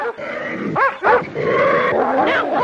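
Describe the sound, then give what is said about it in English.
A bear roars and growls in a loud struggle at the edge of a marsh as dogs attack it, shaking off the dogs and rearing up on its hind legs, with sharp yelps and barks bursting out over a continuous snarling din. “old Slewfoot shakes off the dogs and rears up on his hind legs”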